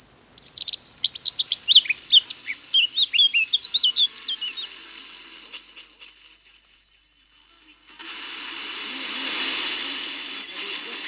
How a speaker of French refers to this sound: 186, fauvette à tête noire.